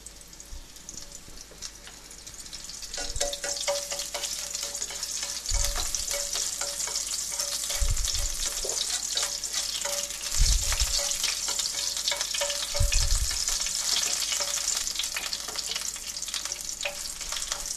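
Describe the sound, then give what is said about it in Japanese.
Sliced garlic sizzles steadily in hot olive oil with chili peppers in a lightly heated pot, a dense crackling hiss that swells after a quiet start, with a few low thuds and clinks from stirring. “次にスライスしたガーリックを入れます。”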